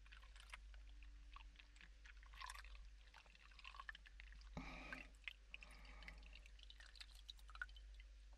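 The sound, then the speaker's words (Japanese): Water sounds of something being lightly rinsed off: scattered small drips and trickles, with a brief, fuller gush of pouring water around the middle, then more light splashing and dripping. No one speaks. “こういうのはお水の音もセットにするといいですよね。”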